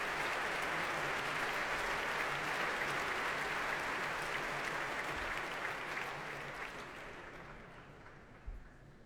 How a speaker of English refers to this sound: And here comes David Robertson, bringing the orchestra to their feet to accept the applause of the crowd here at the Royal Albert Hall and to perform the first piece on tonight's programme, Isabella by Frank Bridge.